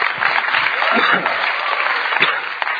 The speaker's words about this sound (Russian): Давайте подарим Богу аплодисменты, что мы не тупые.